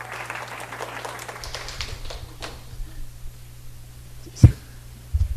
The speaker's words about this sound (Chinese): 我们拍手哈。